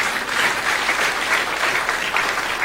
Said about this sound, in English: Can you clap your hands?